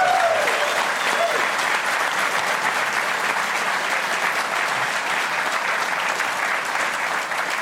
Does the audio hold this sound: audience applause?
yes